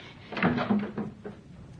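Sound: hotel room door opening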